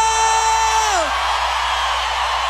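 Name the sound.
audience shouting and whooping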